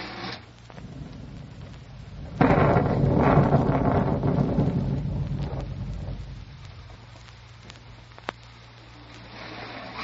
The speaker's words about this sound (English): Phew, boy. Some rain, huh? It's been going steady for 3 hours.